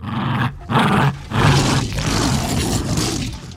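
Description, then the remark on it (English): A deep, rumbling T-Rex roar made from recordings of a Jack Russell Terrier playing with a rope toy, in several loud bursts, growling and gravelly with a harsh, wide-band texture, then stretching into a long sustained bellow that fades slightly at the end. “So he was inspired to use these sounds for the T-Rex.”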